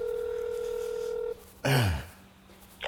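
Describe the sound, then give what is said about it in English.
A steady electronic ringback tone on an outgoing phone call sounds for just over a second, then cuts off. A short, loud, falling vocal-like sound follows, with a faint noise at the end. “Oh, there, now it's ringing.”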